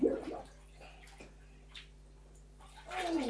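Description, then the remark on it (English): Water is tipped from a bottle over someone's arms in a bath, splashing and trickling, with a louder pour at the start and again at the end, separated by quieter drips and small splashes. “Tip water on my arms.”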